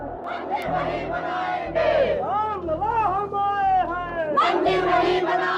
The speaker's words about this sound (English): At about 11 in the morning, the crowd started chanting, "We will build a temple here."